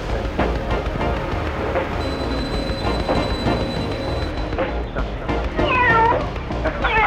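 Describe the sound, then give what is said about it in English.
A kitten meows repeatedly in high, rising cries near the end, over a loud, dense rumble of machinery-like background noise, as Robot 23 is told to pick it up and pet it. “Go over to the kitten. Pick it up. And pet the kitty.”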